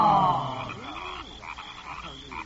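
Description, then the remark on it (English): Frogs croaking in a garden pond: a loud, raspy call opens, followed by a steady chorus of repeated, pulsing croaks with no voices. “Those are the frogs in the pond of the garden.”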